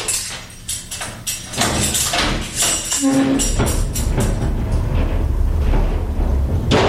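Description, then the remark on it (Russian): The heavy iron door of the pretrial detention centre on Volodarsky Street clanks and bangs shut with a series of loud metallic impacts, a brief creak, then a low reverberant rumble lingering. No one speaks. “Сегодня эти железные двери следчего изолятора по улице Володарского могли открыться, как выпустить на волю Юрия Хадыку и Вячеслава Сивчика.”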